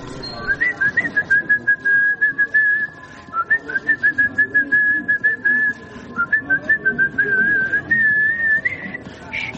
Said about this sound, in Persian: مقداری در سکوت راه رفتیم تا اینکه شروع کرد به سوت زدن.